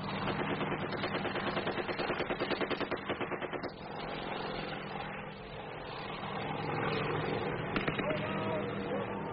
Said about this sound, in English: We're going in. Chopper's gunner opens up on the tree line.